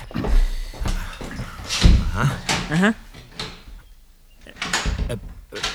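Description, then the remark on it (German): An office door swings shut with a solid thump and is locked, followed by rattling latch and key clicks, while voices murmur in the background. “Wieso schließen Sie denn die Tür ab?”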